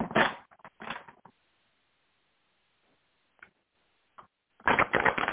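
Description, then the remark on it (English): Tarot cards are shuffled for a reading in quick, papery bursts, a riffling flutter at the start and a longer one at the end, separated by a near-silent gap with a couple of faint soft taps. “Let's go to the cards and see what comes out for our lovely Stephanie.”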